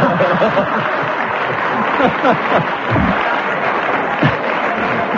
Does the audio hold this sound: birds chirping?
no